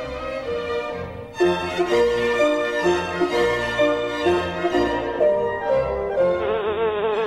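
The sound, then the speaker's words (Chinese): A hungry fly buzzes around nonstop, searching for food, its steady drone rising and dipping in pitch as it darts about, with a low rhythmic pulse underneath and no voices. “有一只饥饿的苍蝇飞来飞去，四处寻找食物。”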